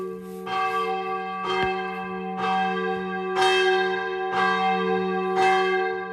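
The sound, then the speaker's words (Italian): The church bells of San Bernardo di Chiaravalle in Prada, a hamlet of Poschiavo in Valposchiavo, peal at 6 in the morning. They ring steadily, with repeated strikes about once a second over a sustained ringing hum of overlapping tones. Loud, with no voices. “Quelle che state ascoltando sono le campane della chiesa di San Bernardo di Chiaravalle di Prada, frazione di Poschiavo.”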